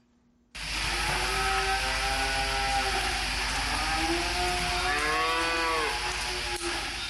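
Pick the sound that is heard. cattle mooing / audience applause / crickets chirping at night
cattle mooing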